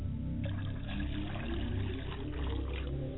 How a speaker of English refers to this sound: I pour libation to the west, and I say, libation.